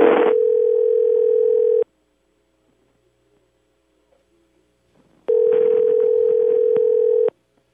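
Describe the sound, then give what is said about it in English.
Two long, steady electronic rings of a telephone line ringing on the other end as a call is put through to billing, each lasting almost two seconds with a few seconds of silence between, heard clearly through the handset. “Well, come on. Answer the phone, will you?”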